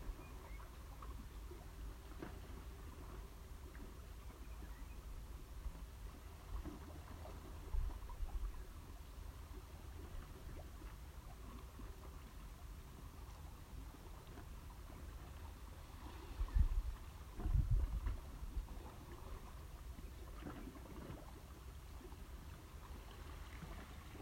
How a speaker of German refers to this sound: Vielleicht hörst du die Melodie des Wassers, des Ozeans.